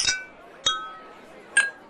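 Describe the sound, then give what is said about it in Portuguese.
Wine glasses holding Algueira Pizarra wine clink together in a toast, three bright ringing chimes spaced out over a couple of seconds, each leaving a short resonant tone that fades before the next touch. “Ademais desta algueira pizarra que teño agora na man e co que vou facer o primeiro brinde.”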